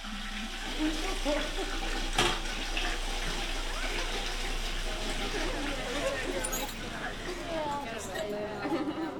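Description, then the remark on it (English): An automatic toilet in a bathroom flushes by itself, with no chain to pull, a steady, loud rush of water that runs for several seconds, while indistinct voices murmur faintly in the background. “Have you seen the flush? Look, it does it automatically. You don't even have to pull a chain or throw a bucket down there.”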